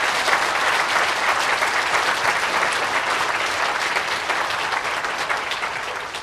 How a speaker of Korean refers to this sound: 그분들 위해서 우리 박수 한번 쳐주십시오.